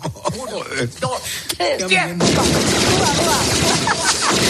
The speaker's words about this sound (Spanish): Yo aquí me río muchísimo que el pobre pizzero sale corriendo pensando que hay un tiroteo de verdad. Qué barbaridad. Cuando era el sonido de la peli lo que estaba poniendo con el mando el travieso McAllister.